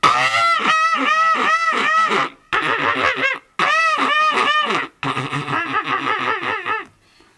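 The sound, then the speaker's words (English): A person imitates a goose with loud, nasal honking calls in rapid bursts, four groups of repeated honks separated by brief pauses. “I used to do it until I get it clear without my teeth as a goose.”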